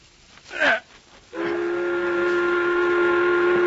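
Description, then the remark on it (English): A loud, steady steam whistle blows at midday to signal meal time for workers, with a sustained harmonic tone, starting abruptly after a brief rising sweep and holding on without a break. No one speaks. “The whistle has blown.”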